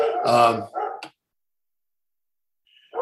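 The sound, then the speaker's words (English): A wolf dog barks loudly, a harsh harmonic bark followed by a second shorter one and a sharp yip, then silence before another bark begins at the very end. “Let's talk about the different ones and ignore my barking wolf dog.”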